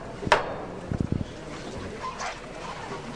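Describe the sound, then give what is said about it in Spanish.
A sharp wooden hammer (martillo) strike rings out, followed a moment later by three quick, lower knocks in a tight cluster, over a faint murmur of background noise; the hammer is struck again on a procession float (paso) that must leave through a doorway on wheels. “Va a tocar de nuevo el martillo”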